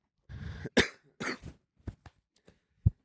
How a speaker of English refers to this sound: It's cough. What is coughing? Oh, I have a cough drop too. How does that fit into the mix? Take would a cough drop. I smoked a cigarette last night. Uh-huh. And when I smoke a cigarette when I'm drinking, it stays with me for seven days.